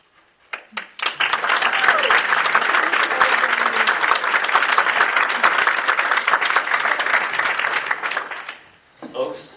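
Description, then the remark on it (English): A large audience at a council meeting breaks into sustained applause, dense and loud for several seconds before tapering off, with a voice briefly emerging at the very end. “I know clap thing is one of those things like to, but we have to really get through it.”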